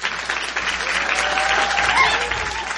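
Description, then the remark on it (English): Steady, dense applause from an audience for a local poet, activist and artist fills the whole stretch, loud and continuous with no pauses, with a faint tonal whistle or cheer rising briefly near the end. “Can you give a big round of applause for your local poet, activist, artist?”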